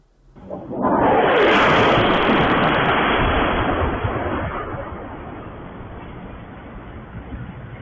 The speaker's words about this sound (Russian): Это фактически в центре Белгорода. Давайте посмотрим, как это выглядел момент взрыва.